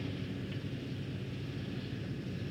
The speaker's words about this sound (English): The two helicopters are now airborne, and Mr. Kennedy will be returning to the White House in just a few moments.